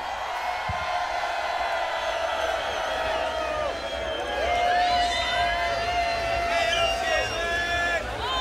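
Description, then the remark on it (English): A large concert crowd screams and cheers continuously on the performer's cue, a dense, loud wall of high-pitched shrieks and whoops with rising individual yells that swells slightly toward the end. “1, 2, 3, scream!”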